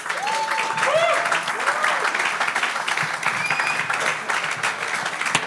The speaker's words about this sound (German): Deswegen Applaus an euch und nicht an mich.